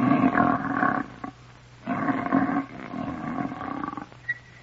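An elephant snores twice, long and rumbling with a rough, growly texture, each snore followed by a softer, breathy exhale; loud, with no talking.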